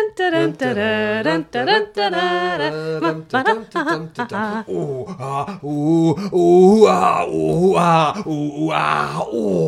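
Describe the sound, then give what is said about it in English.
A voice imitates sex noises, groaning and moaning in long, drawn-out, pitch-sliding bursts with brief breaks, loud and continuous for the whole stretch with no actual words. “Yeah, I know, but it was supposed to sound like sex noises, but it just came out as West Country noises.”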